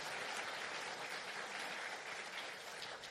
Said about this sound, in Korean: 네, 우리 박수로 우리 환영하겠습니다.